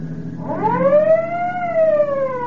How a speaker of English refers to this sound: We'll head for the hospital. Step on it, Peter. Use your siren.